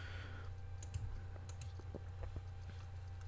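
Quick, uneven keystrokes tap on a computer keyboard as text is typed into a text box on a presentation slide, fairly quiet over a steady low electrical hum, with no one speaking.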